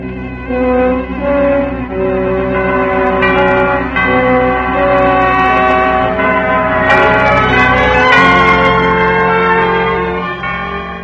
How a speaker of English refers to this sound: The little Spanish Moroccan export town of St. Angelo is famous for only one thing, the bells of the Mission St. Angelo.